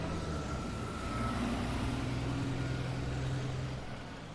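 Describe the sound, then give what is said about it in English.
The engine of the 3:40 bus drones steadily, rising slightly as it passes along a residential road, with low rumbling tones and road noise throughout, no voices present. “And the 3:40 bus is coming up behind me.”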